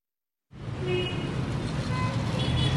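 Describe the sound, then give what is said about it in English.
Steady, brisk street traffic in Revolution Square in Tehran, Iran, fills the scene after a brief silence, with a continuous rumble of passing cars and larger vehicles and faint scattered voices of many people going about their day. “The traffic is brisk, as you can hear.”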